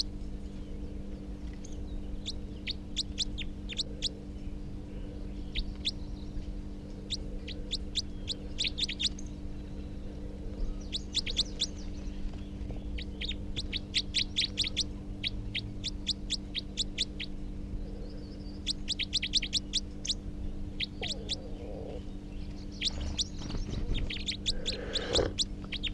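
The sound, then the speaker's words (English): A wild male bird gives rapid, sharp type 4 calls in quick bursts of several notes, repeating every few seconds over a steady low background hum, with no one talking. “So recording the new wild, the second wild male type 4, who's giving rapid type 4 calls.”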